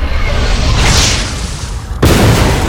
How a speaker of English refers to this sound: A lance of plasma sizzled toward the flayed god, who sidestepped. The blast shattered a pillar of the gazebo, causing part of the roof to sag.